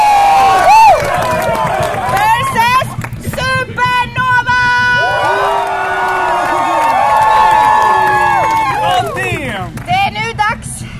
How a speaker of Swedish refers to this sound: Det kan bli svårt, men vi får köra på jubel.